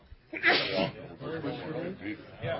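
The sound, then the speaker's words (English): During a council meeting, a single sharp, loud sneeze bursts out near the start, followed by a person talking in an ordinary voice for the rest of the moment. “Bless you.”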